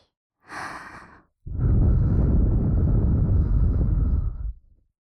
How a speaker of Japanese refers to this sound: ここで吐息、吹きかけ攻撃。